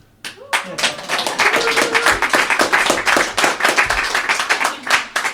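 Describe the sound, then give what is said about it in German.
A small live audience of guests on site claps steadily, a dense run of sharp hand claps lasting several seconds, with a few faint voices murmuring underneath. “Aber das Publikum darf sich schon noch kurz bemerkbar machen, sonst.”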